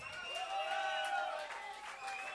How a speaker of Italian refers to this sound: I vostri applausi sono la nostra energia. Più forte voi battete le mani e meglio suoniamo.